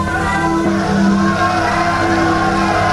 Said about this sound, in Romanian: Bețivii strigă ura cu glas de poloboc.